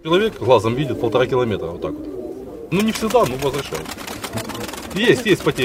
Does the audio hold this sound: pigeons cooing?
yes